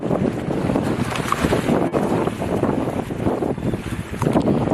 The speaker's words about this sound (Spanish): Así suena este submarino mientras avanza por el océano. Tiene una eslora de 178 metros, una manga de 15. Desplaza cerca de 30.000 toneladas. Para que te hagas una idea, es el más largo en servicio del mundo, pero no es más grande.